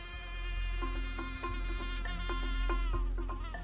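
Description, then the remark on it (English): A steady, high-pitched whine of about ten mosquitoes buzzing, droning continuously throughout, with brief choppy tonal bursts layered over it and no talking. “Mosquitoes are insane. Like, literally, the mosquitoes.”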